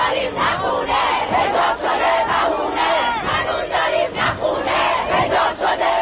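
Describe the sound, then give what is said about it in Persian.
A large protest crowd in Iranian cities shouts and chants against the government, a dense, loud roar of many voices with rhythmic surges and swells that continues steadily throughout. “مردم ایران بغض فرو خوردهشون رو فریاد می زدن.”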